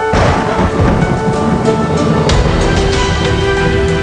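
A loud, continuous thunderstorm with deep rolling thunder rumbling steadily throughout, dense, with no voices.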